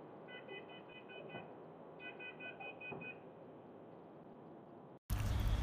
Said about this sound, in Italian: Nel frattempo era partita il cicalino della mia Renault Kangoo che segnalava una portiera aperta, non so neanche perché, e quindi mi sono totalmente distratto e non sono riuscito poi a tenere bene il filo del discorso.